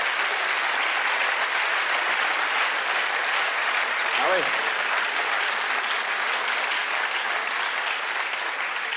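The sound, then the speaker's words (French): Sustained applause from an audience, a steady dense clapping that fills the whole clip at an even level, with a brief voiced exclamation rising above it near the middle. “Ce soir, vous pouvez applaudir.”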